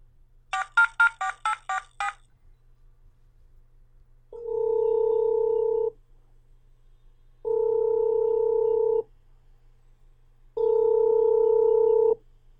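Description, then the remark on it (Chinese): A quick string of about eight touch-tone dialing beeps, then three long, steady ringback tones with even pauses between them as a phone call rings through. No one speaks. “我打个电话问问。”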